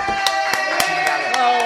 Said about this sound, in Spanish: Ahí sí le aplaude. A él sí le aplaude.